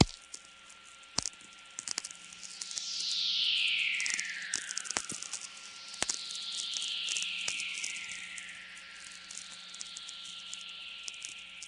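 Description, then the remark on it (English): Two soft, hissy natural radio whistlers, each a long diffuse tone gliding slowly downward, heard over a crackling static background peppered with sharp clicks; no voices. Recorded at 5:24 am on 22 June 1998 at Belly River Campground, Waterton Park, southern Alberta, Canada. “And in the case of this morning, we're having these very soft, hissy whistlers, which are actually fairly rare.”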